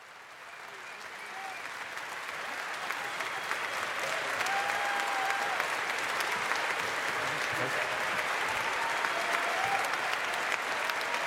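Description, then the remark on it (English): An audience at Congress breaks into applause for Nico Semsrott and for themselves, swelling over the first few seconds into a steady, sustained roar of many hands clapping, with a faint murmur of voices running underneath. “A huge applause also for yourselves.”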